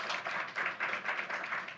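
An audience applauds, a dense, steady patter of many hands clapping at moderate loudness that holds for about two seconds, with no one speaking over it.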